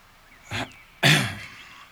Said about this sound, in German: Nachdem er sein Sandwich aufgegessen hatte, räusperte er sich schwerfällig und blickte seinen Neffen aufrichtig an.